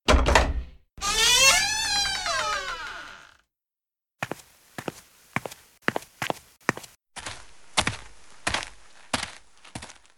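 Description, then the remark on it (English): A door creaks open with a long, wavering squeal after a brief thud as somebody enters a backyard, then a short pause gives way to steady, evenly paced footsteps walking. “At that moment, the door opens.”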